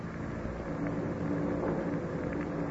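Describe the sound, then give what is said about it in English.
A low, steady rumble of thunder in the distance from an approaching storm, holding at an even level for a few seconds with no sharp crack and no voices. “Did you hear that? Thunder in the distance.”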